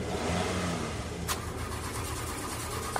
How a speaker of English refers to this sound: It's running? It's trying. The car chugged and chugged.